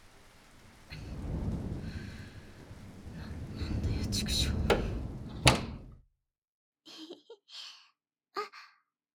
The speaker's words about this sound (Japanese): ものすごい雨です。